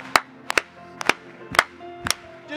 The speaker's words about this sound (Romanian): Haideți să o aplaudăm lui încă o dată.